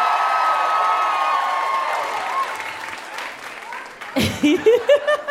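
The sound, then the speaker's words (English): An audience applauds a comedian known from the Netflix show Grace and Frankie, a dense, steady wash of clapping that gradually fades over about four seconds, and then a person starts speaking as it dies away. “Give it up for him one more time, everybody.”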